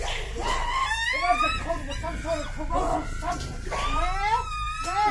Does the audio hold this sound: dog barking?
yes